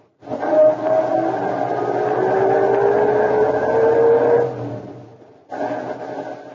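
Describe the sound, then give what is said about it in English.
A car engine turns over and roars to life, revving steadily with a rising pitch as it pulls away, then cuts briefly before the motor noise resumes. No voices. “All right, I'll start our car and see what he does.”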